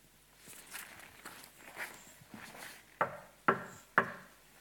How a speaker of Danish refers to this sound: se, jeg står ved døren og banker på. Hører nogen mig og åbner døren, vil jeg gå ind til ham og holde måltid med ham og han med mig. Kan du høre det?